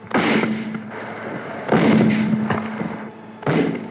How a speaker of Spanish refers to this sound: De repente se desencadenó la tragedia. Suenan varios tiros.